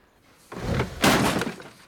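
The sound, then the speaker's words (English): Props from a play being smashed and broken out in a garden: a heavy crunching crash followed by a louder splintering smash, forceful, with no voices present. “Out in the garden, Peter is smashing all the props from the play.”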